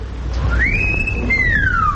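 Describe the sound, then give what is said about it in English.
A single drawn-out wolf howl rises in pitch, holds a long high note, then slides slowly downward, heard in the distance over a steady low rumble of background noise. “And off in the distance, we hear the call of the wolf.”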